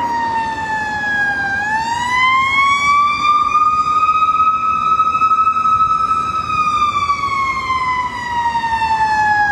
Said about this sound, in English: hang on, it's a fire truck.